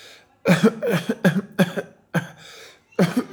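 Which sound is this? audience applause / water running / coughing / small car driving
coughing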